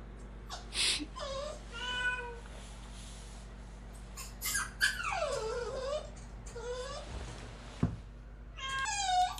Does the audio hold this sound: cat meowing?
yes